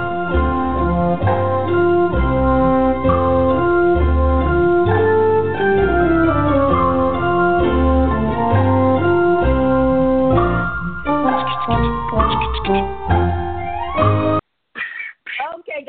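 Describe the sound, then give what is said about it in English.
The Jeopardy quiz show theme plays loudly, a bright, steady melody over a bouncing rhythmic accompaniment, then cuts off abruptly near the end, leaving a few short, scattered sounds. “So this, in case you don't know what Jeopardy sounds like, this is what it sounds like.”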